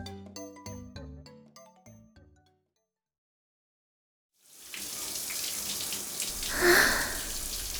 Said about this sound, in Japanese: はあ、熱いシャワーが気持ちいい。 七咲が僕の家でシャワーを浴びている。